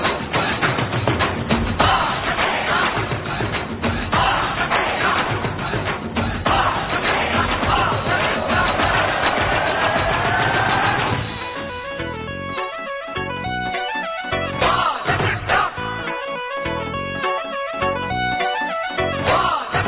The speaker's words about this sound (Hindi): तो आपके लिए हम जोरदार तालियों के साथ आपका मंच पर आह्वान करते हैं